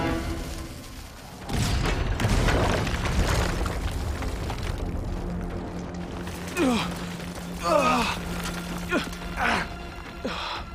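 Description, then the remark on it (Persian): A sudden, heavy blast erupts into a loud, rumbling roar that sustains for several seconds before slowly fading, with a few shouting voices rising over the dying rumble. “اون دیگه چی بود؟ مثل سلاح آتشین یونانی بود.”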